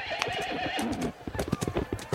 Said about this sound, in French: Le roi Marc galope sur son petit poney blanc.